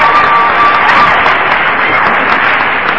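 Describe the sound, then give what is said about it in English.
Steady, dense applause from an audience, a continuous loud wash of many hands clapping with a few cheers mixed in, sustained evenly for the whole few seconds with no talking over it, clapping for a speaker who has just said he has been sober 21 years. “Trust me, you're clapping for yourself, because...”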